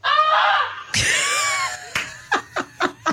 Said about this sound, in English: But the goose realized regular goose language was not working. It was not working. So it screamed.